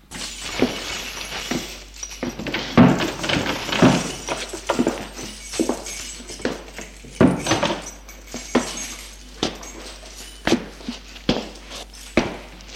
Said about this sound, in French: prend des clés de la poche de sa gabardine et va ouvrir la porte d'un vieil immeuble.